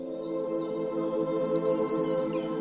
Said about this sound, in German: Die Blaumeise fängt an zu zwitschern.